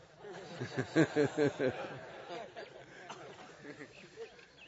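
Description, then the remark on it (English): A human voice imitates a koel's call with a quick run of four rising, repeated hooting notes, clear, then fades into faint background noise and soft murmuring. “voice, and he looks like a crow”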